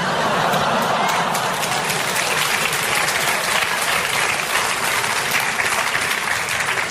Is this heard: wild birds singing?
no